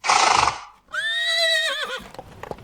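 A horse gives a loud, wavering whinny after a breathy snort, then a few sharp hoof clip-clops tap out irregularly at the end. No one speaks.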